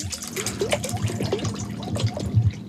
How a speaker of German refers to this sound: Das ist das Wasserschalen-Experiment sozusagen. Das ist eine normale Klangschale, die ich mit Trinkwasser fülle. Normales Hahnenwasser.